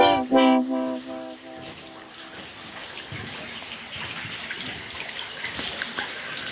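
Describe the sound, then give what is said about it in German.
Steady trickling and splashing of brine running down a very tall, long wooden salt graduation tower at the spa town of Bad Kissingen in the Rhön, a continuous hiss-like patter with scattered drips, following a brief harmonic tone at the very start. “Was ihr da im Hintergrund plätschern hört, das ist die Saline in Bad Kissingen.”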